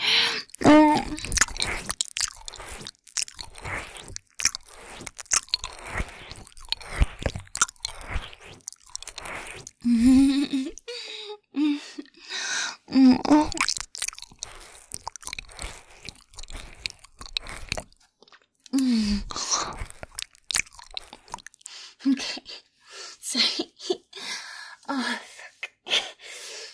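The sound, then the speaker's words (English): Wet, smacking licking sounds repeat in quick irregular bursts, with soft squelches and gasping breaths between them, steady and fairly loud, with no talking. “I just can't help it. I gotta lick you all over.”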